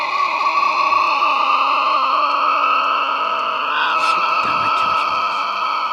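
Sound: tasmanian devil screeching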